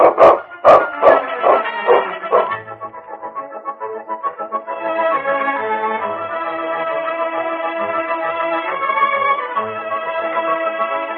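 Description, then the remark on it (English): A dog, King, in the radio drama Challenge of the Yukon, lets out a quick series of loud barks at the start, then the barking gives way to a long, sustained ringing tone that carries to the end. “Oh, that rotten dog.”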